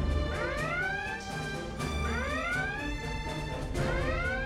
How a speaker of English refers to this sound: I really like episodes where there are alarms. Red alert.